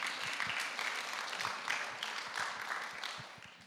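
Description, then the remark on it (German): An audience claps steadily for a few seconds for a man the speaker has just thanked and praised, a dense, even patter of many hands at a moderate level with no voices standing out. “Gib ihm mal einen Applaus, der macht das super, ne?”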